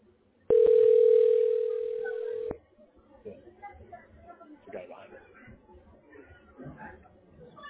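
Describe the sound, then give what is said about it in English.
A single loud, steady telephone ringing tone, as a call is dialed to a tax relief specialist, holds for about two seconds, then cuts off and gives way to faint, muffled voices talking. “This moment I'm dialing the specialist.”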